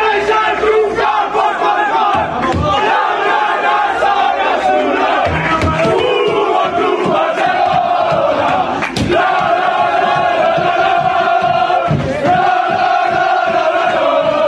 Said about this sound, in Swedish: Det fanns anledning att jubla.